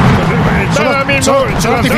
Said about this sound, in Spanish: Ya escuchamos esos fuegos artificiales de la pirotecnia.